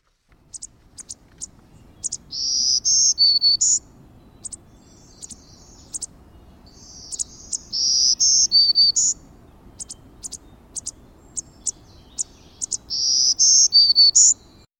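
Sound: black-throated green warbler song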